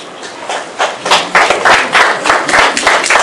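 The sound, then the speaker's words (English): An audience claps steadily for about three seconds at a Sabbath church service in Jerusalem, many hands making a dense, bright patter of overlapping claps that swells after the first second and holds loud. “I got the cheering section back there.”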